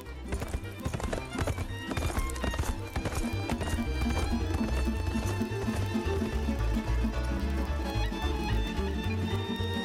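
Steady, rhythmic clip-clop of horse hooves on a hard surface, fairly loud, continuing throughout with a sustained tonal, music-like layer underneath.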